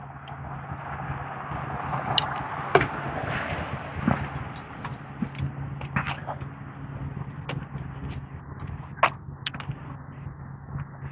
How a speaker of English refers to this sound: Somewhere there's, sounds like a trash truck.